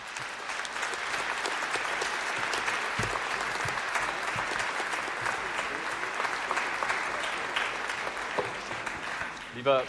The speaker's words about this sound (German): ich glaube, der Applaus hat schon Bände gesprochen, dem ist eigentlich nichts mehr hinzuzufügen.